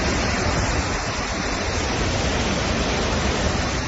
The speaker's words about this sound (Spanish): Así caía ayer el agua en el municipio de Aguere. Y esto que vas a escuchar ahora es el entorno del barranque de Tío Pino